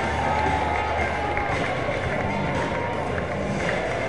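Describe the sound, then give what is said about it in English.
A ballpark crowd at a Frisco RoughRiders baseball game cheers in a steady, dense roar as pitcher Ricky DeVito takes the mound, holding at an even level for the whole stretch, with many voices blending into one continuous wash of sound. “Those cheers must mean it's Ricky DeVito on the mound, and it is.”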